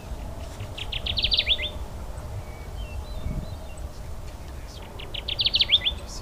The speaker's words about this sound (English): The Kirtland's warbler is a species on its way back up. It's a success story in Michigan, a place that's learned the hard lessons of the 19th century lumber boom that nearly decimated the bird.